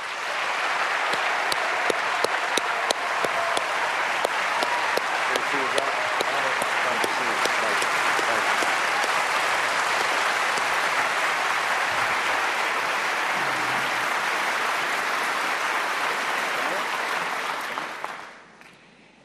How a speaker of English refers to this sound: The audience here in the hall has promised to remain silent. No cheers, no applause, no noise of any kind. Except right now, as we welcome Senators Obama and McCain.